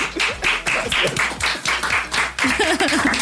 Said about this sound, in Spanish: Equipo, un aplauso